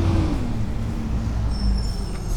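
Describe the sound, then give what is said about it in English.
A garbage or recycling truck rumbles steadily on an overcast, dark, misty day with a deep, continuous engine drone, a faint high whine or brake hiss coming in toward the end. “Is it the recyclable truck or the garbage truck?”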